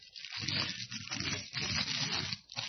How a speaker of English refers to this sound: So, well, we got these things. So here's this piece of cellophane. You can just crumple up.